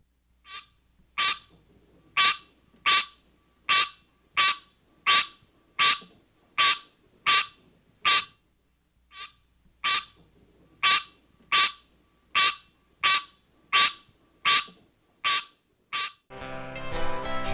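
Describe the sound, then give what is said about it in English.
A green tree frog calls in a steady series of about twenty short, nasal honking notes, evenly spaced and fairly loud, with a brief pause midway; noise rises at the very end. “One parent, the green tree frog, Hylas in area, has this call.”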